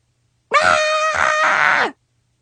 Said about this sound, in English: Then, in a very calm and mature manner, I did what any normal girl would do in my exact same situation. I had a really good scream.